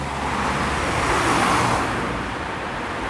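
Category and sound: vehicle, street traffic noise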